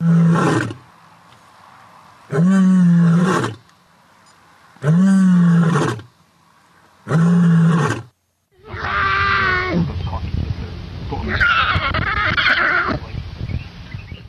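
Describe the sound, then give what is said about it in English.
A rare African white lion lets out four loud, deep roars in a steady rhythm, each followed by a short pause, then a rare white lion cub answers with a longer, higher-pitched, strained roar. “The roaring of a rare African white lion and the adorable effort by an even more rare white lion cub.”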